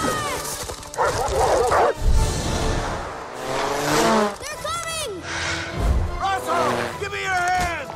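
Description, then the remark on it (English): A dog barks several times in loud, excited bursts, with yips and whines, over a busy, rumbling background that sounds like engine noise and commotion. “But it's a talking dog!”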